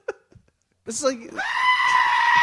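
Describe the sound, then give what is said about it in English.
A person mimics a screaming goat, letting out a loud, strained, sustained bleating wail that rises and holds for over a second after a brief vocal lead-in. “I never knew goats could scream like that until I saw those videos of the goats screaming.”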